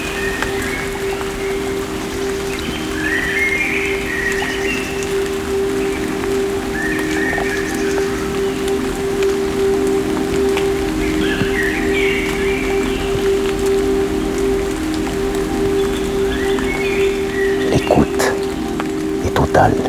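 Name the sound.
light rain falling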